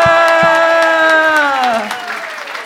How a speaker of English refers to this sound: Yeah, hang around, man. Keep clapping.